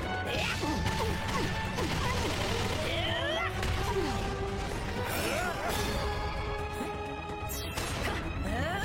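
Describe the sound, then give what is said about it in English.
Cannon fire booms several times amid a loud, dense battle din of crashes, clanks and whooshing effects, with voices faintly mixed into the chaos. “Hey, cannon!”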